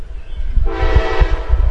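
A loud New York train horn blares in a sustained, harmonic blast over the heavy rumble of a passing train, with rhythmic low thumps from the cars rolling by.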